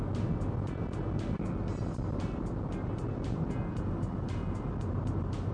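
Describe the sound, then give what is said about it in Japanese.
Steady, loud road rumble from inside a car moving at speed on an expressway, with a regular series of soft thumps as the tires pass over seams in the pavement; no one speaks. “その普段のノリでハンドル切っちゃ絶対ダメじゃない、高速道路って柔らかにじゃない基本。”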